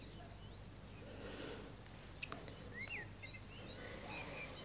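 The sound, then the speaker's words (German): Faint birdsong at dawn, nearly 3 o'clock: a handful of short, scattered chirps and whistles rising over a steady background hiss, with a brief sharp click partway through. “Die Vögel singen schon.”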